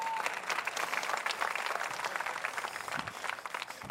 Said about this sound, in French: Puis je vais applaudir Sébastien qui vient m'aider ce matin.